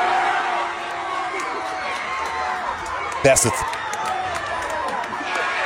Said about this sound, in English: They act like they've never been to a movie before. It's different. They might not have ever been to a movie. They're running around. They're screaming at the screen. It's a whole lot. Hold on. Listen to this. This theater.